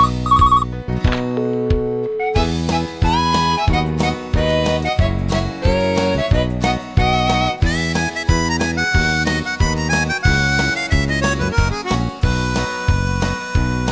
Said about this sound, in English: Last week I was courting her in me car, and she was letting me go too far. The next thing her mobile phone did ring, just as I was about to put me hand on her.